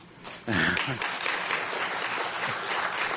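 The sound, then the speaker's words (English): Audience applause for a speaker who was a patient in a clinical trial swells suddenly into a dense, steady wash of many hands clapping, with a brief voice rising over it near the start before the clapping carries on evenly. “Don't applaud me.”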